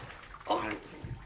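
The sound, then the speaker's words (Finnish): A brief splash of cold water poured over a man in a short burst, followed by a louder rush at the end, with voices present around it. “Kaatakka kylmä vesi miehen päälle, jotta hän virkistyy.”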